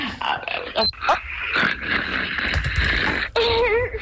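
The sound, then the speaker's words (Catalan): A husband snores, heard live over a telephone line brought close to him, a rough, rasping, breathy rumble through muffled, band-limited phone audio, ending with a brief wavering tonal sound. “Podem confirmar que el marit segueix roncant?”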